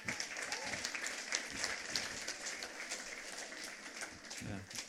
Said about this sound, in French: Paf, allez, applaudissez-le.